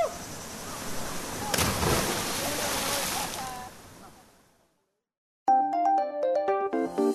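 A loud splash as a person jumps three meters from a rock into cold water, followed by churning, bubbling water that gradually fades to silence before a short bright musical jingle begins.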